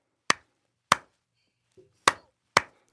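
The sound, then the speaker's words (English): Four sharp, loud hand claps at an uneven pace, deliberately recreating someone who claps slightly off the beat to a band; the gaps between them shift so the rhythm feels slightly off the beat, with a faint soft thump between the second and third. “Well, like, I mean, I can hear your clapping.”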